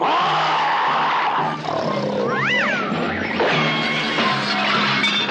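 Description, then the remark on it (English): A person imitates a saber-toothed tiger's growl: a loud, raspy roar that runs for several seconds, with a wavering rise and fall partway through. “Will you cut it out with that saber-toothed tiger troop growl?”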